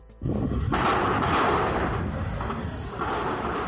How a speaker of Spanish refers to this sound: Esto que suena no son disparos, es el ruido estruendo de una plancha que se ha colocado para las obras.